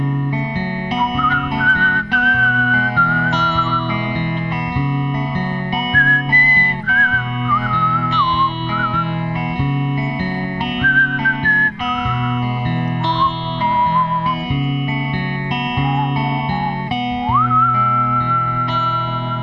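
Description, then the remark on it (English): A bright whistled melody glides and bends over a steady band backing of bass and guitar, the whistling sitting clearly on top of the music throughout. “And …, that's some great whistling there, ….”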